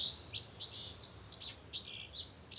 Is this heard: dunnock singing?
yes